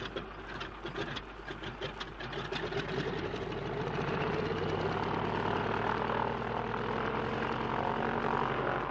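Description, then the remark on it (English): Stone-cold aircraft engines sputter and catch, then rev up into a loud, steady, throbbing drone that builds over the first few seconds and holds strong with no voices. “And if only your engines don't seize, they're stone cold”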